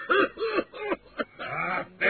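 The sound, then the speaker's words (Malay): Several rough, voiced coughs from a person standing in a marching line come in quick succession, fairly loud, with a short gap before a longer hacking fit and another cough starting at the end. “Baris kau pakai batuk-batuk segala.”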